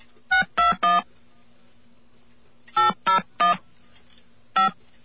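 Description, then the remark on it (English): Seven short telephone keypad tones in quick bursts as a secret authorization code is entered: three, then a pause, three more, and a final single beep, each a bright buzzy chord over a low steady hum. “Okay, now I've accessed my secret authorization code.”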